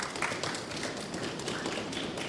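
A live audience stamping their feet in a dense, continuous rumble of overlapping thuds and taps, steady and fairly loud throughout, with no voices standing out.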